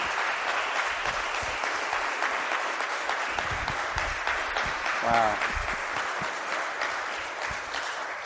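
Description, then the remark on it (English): An audience applauds in appreciation of a missionary, a sustained, steady, dense clatter of many hands clapping, with a brief voiced exclamation rising out of it partway through. “I want us to express our appreciation to our missionary”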